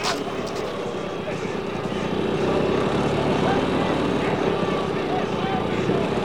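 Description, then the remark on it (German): A police officer's motorcycle engine drones steadily, growing slightly louder after the first couple of seconds, amid a dense, busy background with faint voices. “Da kommt ein Polizist mit einem Motorrad.”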